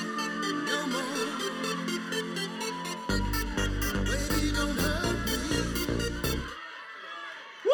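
A dance pop song plays loudly, its synth melody joined partway through by a heavy four-on-the-floor bass beat and crisp hi-hats, with a crowd's noise mixed faintly underneath.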